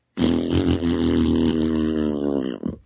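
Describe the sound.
A person blows a long, buzzy raspberry imitating a fart noise, one continuous low, rumbling blat lasting over two seconds, loud and steady before sputtering out at the end.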